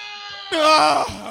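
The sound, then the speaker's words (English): A man lets out a single loud, strained scream lasting under a second, wavering in pitch, following a brief moment of quiet background hum. “Oh, I have had life screamed back into me by Thor himself.”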